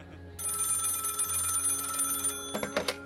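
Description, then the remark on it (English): An old-style telephone bell rings steadily at the National UFO Reporting Center at night for a couple of seconds, a bright metallic trill, followed by a couple of short clattering bursts like the ring cutting off or the receiver being lifted. “But there was one other facility whose phone rang off the hook that night.”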